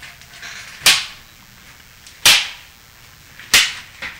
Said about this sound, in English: Whoa. Okay. There's a little good there's a good slap. Mm-hmm. Mm. Yeah. Mm. Nice sound.